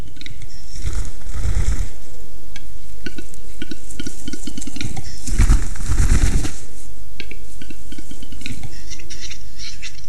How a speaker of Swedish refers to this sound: Och inne i skogen de spelande tjädertupparna. Det här vingbullret som de gör, det är väldigt mäktigt och hörs bra mycket längre än knäppen och sisningarna de gör med näbben.